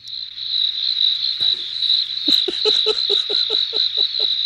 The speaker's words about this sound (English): Where are the crickets? Get the hell out. Are there crickets?